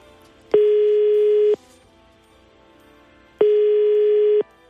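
Two long, steady ringback tones of about a second each, separated by a pause, sound clearly over a quiet line while Radio Ognjišče places a phone call to a listener in Trbovlje. No one speaks.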